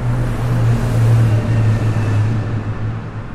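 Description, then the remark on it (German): A steady, loud low-pitched engine drone with a broad rushing wash above it, like continuous road traffic, holding fairly constant for a few seconds with no voices. “Die Anthrophonie steht für den vom Menschen erzeugten Klang, beispielsweise durch Verkehr oder Industrie.”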